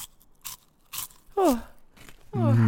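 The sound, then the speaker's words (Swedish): Crisp crunching of cheese puff snacks, two sharp bites spaced apart, followed by short voiced groaning sounds from a person. “Det är bara krasandet.”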